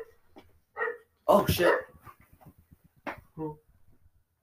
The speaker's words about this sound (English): There's a dog out there.